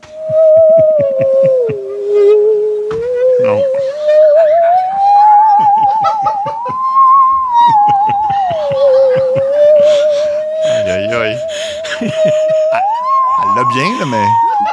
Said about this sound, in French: Et elle a joué l'hymne national américain à la scie. Ben voyons. Ben non. À Lee Gwynn. Ben et dans le milieu du stade, et c'est un vrai extrait. Écoutez ça.